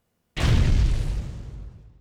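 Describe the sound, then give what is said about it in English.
A single loud explosion, mixed up to the maximum level as a reference for Beta SP or TV broadcast, bursts in after a moment of silence, a heavy, deep boom that rumbles and slowly fades away, with nothing else heard. “A very brief sound like an explosion might go right up to the max.”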